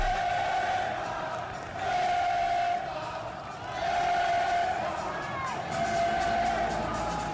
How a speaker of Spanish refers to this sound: En un templo del fútbol europeo resonó este grito.